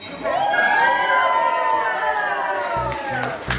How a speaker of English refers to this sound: Listen and hear to the crowd's reaction at the big reveal.